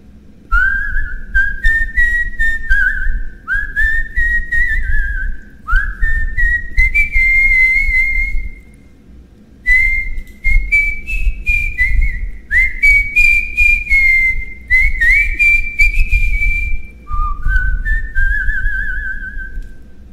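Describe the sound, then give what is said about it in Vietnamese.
A man softly whistles a lilting tune through pursed lips to accompany his beloved's singing at night, a string of gliding, rising phrases with short pauses between them, over a steady low rumble. No singing voice is audible. “Chàng quýt sáo miệng nho nhỏ đệm theo tiếng hát của người yêu.”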